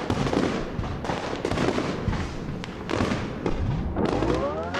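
Fireworks going off in a dense, continuous barrage of loud bangs, crackles and thumps, with a rising whistle near the end as another rocket launches.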